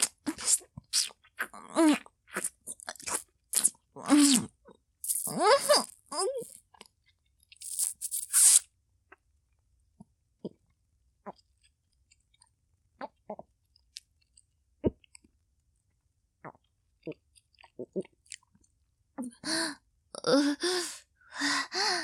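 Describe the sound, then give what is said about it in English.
Wet, crunchy chewing of a mozzarella stick comes in loud bursts, then fades to a long quiet stretch with soft mouth clicks and a gulp as it is swallowed. Another flurry of chewing noises follows at the end. No talking. “I want you to listen when I swallow it.”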